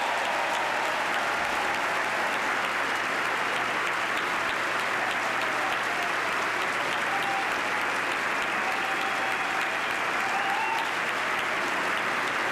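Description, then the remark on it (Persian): Sustained, dense applause from a large crowd of US lawmakers and President Barack Obama's cabinet secretaries gathered in Congress for the President's annual address, a steady wash of many hands clapping at once without pause for the whole stretch, with no speech over it. “شما صدای کف زدن های حضار و قانونگذاران ایالات متحده آمریکا و وزرای اداره رئیس جمهور اوباما را میشنوید که در کانگرس همگی جمع شدند و امسال میزبان و یا حضور یافتند تا که سخنرانی سالانه رئیس جمهور آمریکا را بشنوند.”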